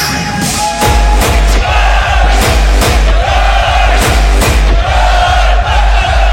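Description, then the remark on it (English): A loud, dense crowd at a party screams and cheers continuously with hands in the air, while a steady thumping beat pulses underneath at a regular pace. “Let me hear your voice. I want to hear your scream.”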